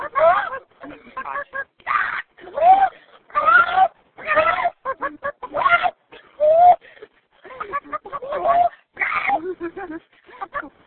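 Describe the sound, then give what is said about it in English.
A person imitates a chicken, clucking and squawking in a rapid run of short, voiced bursts with brief gaps, fairly loud for about eleven seconds. “Maybe the chicken noise is the innate talent.”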